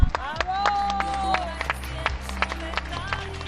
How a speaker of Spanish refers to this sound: un día primaveral, casi de verano, y ya 5 minutos aplaudiendo en las calles de Sevilla, donde el ánimo sigue en todo lo alto.